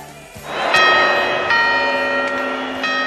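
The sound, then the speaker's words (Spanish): The clock tower bell of the Puerta del Sol chimes a countdown in a steady series of strikes. Each loud, resonant tone rings on and overlaps the next, with no voices. “Oigo las campanadas mientras un agobiazo.”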